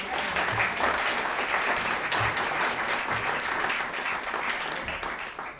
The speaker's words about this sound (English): Can you please give a round of applause for my musicians